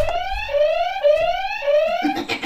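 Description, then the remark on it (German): A loud electronic alarm siren sweeps upward in pitch again and again in quick, regular cycles of about half a second, then breaks off into a short burst of noisy clatter. “Alarm. Alarm, Alarm, Alarm.”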